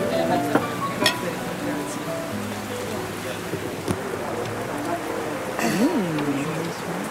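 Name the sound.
rain falling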